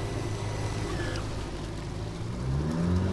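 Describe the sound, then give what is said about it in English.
A motorboat engine on the Mississippi River south of La Crosse, Wisconsin, drones steadily, then its low pitch climbs and grows louder toward the end as the boat accelerates up onto plane. No one speaks. “I'm going to pop up on plane here because we still got like 2 miles to go.”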